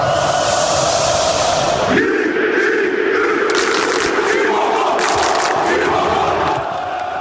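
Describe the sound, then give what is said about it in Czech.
A huge stadium crowd of Galatasaray football fans from Istanbul roars a loud, rhythmic club war cry in unison. The massed voices shift pitch partway through and keep chanting steadily, dense and sustained throughout. “Opravdu bouřlivou atmosféru umí vytvořit například příznivci istanbulského Galatasaraje.”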